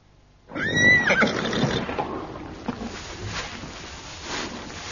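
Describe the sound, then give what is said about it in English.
A horse whinnies loudly, a shrill rising-and-falling call lasting about a second, followed by quieter snorting and shuffling in a stable at Newmarket. “Newmarket, one of my lesser-known stables.”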